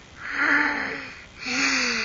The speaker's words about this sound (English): Do you need a Kleenex? Yes. Go get the Kleenex. Come on. Blow your nose.